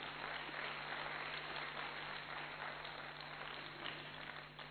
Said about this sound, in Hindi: ताली तो बजाओ जरा।